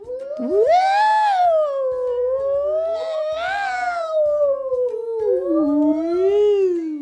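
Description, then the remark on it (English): Several voices imitate a fire engine siren, wailing loudly and continuously in long rising and falling swoops of pitch for about seven seconds. “Shall we be fire engine sounds?”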